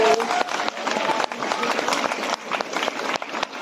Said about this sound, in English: Okay, huge round of applause for the man.